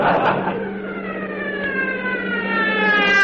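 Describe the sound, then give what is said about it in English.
A police motorcycle siren, from a uniformed officer riding a motorcycle and following a car, wails steadily upward in pitch, loud, its tone swelling as it seems to approach, with no voices over it. “Don't look now, but there's a man in a uniform riding a motorcycle, and he's following us.”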